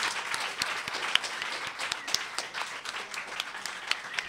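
A crowd applauds steadily, many hands clapping in a dense, crackling wash with a few sharper individual claps standing out, sustained at an even level throughout.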